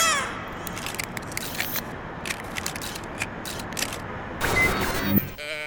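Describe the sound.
A moo box toy gives a groaning, bleat-like moo over rustling, clattering handling noise, swelling louder near the end before cutting off abruptly.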